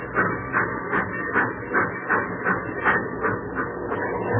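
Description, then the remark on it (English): A long steam freight train chugs along with a steady, even rhythm of breathy chuffs over a constant low rumble and hiss, with no voices. “The old boiler up front's got the steam on.”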